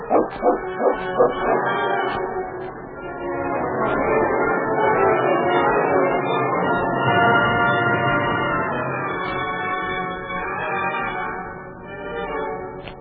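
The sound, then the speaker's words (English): A dog named King, left outside a cabin door, lets out a quick run of sharp barks, then keeps up a steady stream of whining, yelping and bow-wows for several seconds, loud, with no one speaking. “Do you mind leaving your dog outside?”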